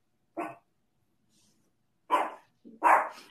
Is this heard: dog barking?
yes